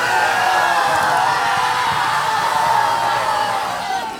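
A loud, dense wall of many voices screaming and yelling at once, sustained and overlapping without pause before easing slightly at the end.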